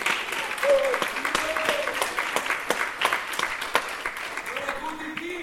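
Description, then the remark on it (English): Sustained applause from a group of people, a dense, steady patter of many hands clapping at moderate loudness for several seconds, with a few voices calling out over it. “By the way, do we clap for the last person?”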